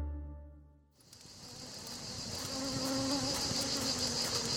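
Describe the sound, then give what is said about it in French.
After a brief low tonal hum, a dense swarm of bees buzzes steadily and loudly, a continuous droning that swells slightly and holds without pause. “Un jour, des abeilles s'apprêtaient à quitter leur ruche en bourdonnant lorsque, pas loin d'elles, des enfants s'approchèrent en groupe tenant des torches qui flambaient.”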